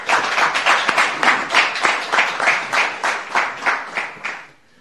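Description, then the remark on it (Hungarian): An audience at a diocese's pastoral days gathering breaks into sustained applause for first-time attendees, many hands clapping together in a dense, steady wash that holds strong for several seconds before tapering off quickly at the end. “Nagy taps.”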